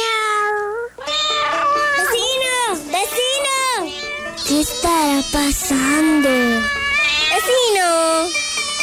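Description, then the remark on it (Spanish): A chorus of cats meowing over one another, loud, with drawn-out rising and falling cries overlapping almost continuously and barely pausing. “Pues mira, ¡cuántos gatos!”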